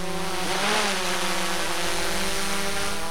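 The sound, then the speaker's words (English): An aerial surveillance drone's rotors whine and buzz steadily as it lifts into the air, guided by an 18-year-old operator with a handheld controller; a loud, continuous droning hum with a slight rise in pitch and no voices. “An aerial surveillance drone lifts into the air.”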